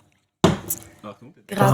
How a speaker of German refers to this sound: Oder Kaffeetassen werden einfach lauthals auf den Tisch geknallt, damit man ein bisschen Geräuschkulisse hat.